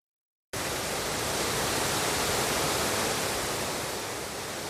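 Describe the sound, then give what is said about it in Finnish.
Foaming Verlankoski river rapids roar in a steady, dense rush of white water after a half-second of silence, loud and unbroken, with no voices. “Punaisessa mökissä kuohuvan Verlankosken rannalla asuvat Heinosen sisarukset.”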